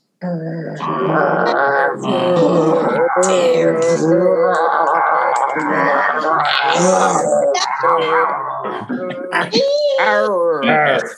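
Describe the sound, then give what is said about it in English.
A crowd of voices at a service imitates a low 'inner Grinch' growl together, a dense, sustained chorus of gravelly, overlapping vocal snarls that holds for about ten seconds at a fairly loud level. “And now, as you were warned in the service description, now let's hear your low inner Grinch growl.”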